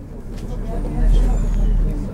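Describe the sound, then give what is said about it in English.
Interior of a moving London bus near Holborn: a steady, heavy low engine rumble fills the cabin, swelling a little louder midway, with faint indistinct chatter and rattles in the background. “We start by getting off the bus at Holborn.”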